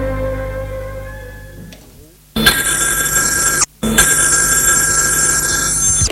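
A loud telephone bell rings insistently in two long bursts separated by a brief pause in a police commissioner's office, coming in after a softer, tonal passage fades away.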